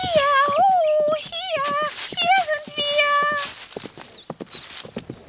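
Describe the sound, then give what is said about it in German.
The hooves of an approaching horse clip-clop in a steady, brisk rhythm, sharp knocks continuing throughout, with a wavering high tonal sound riding over the first half before the hoofbeats carry on alone. “Da hörten die beiden, wie sich ein Pferd näherte und erblickten den schönen Prinzen.”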